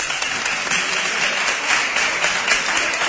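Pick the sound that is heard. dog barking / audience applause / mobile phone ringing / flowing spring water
audience applause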